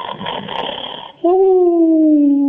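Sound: voice imitating snoring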